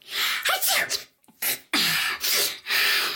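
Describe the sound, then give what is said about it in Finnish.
A sequence of loud, real sneezes in quick succession, sharp explosive bursts separated by short breathy gaps, with no talking. “Kyllä, se oli ihan oikea aivastus.”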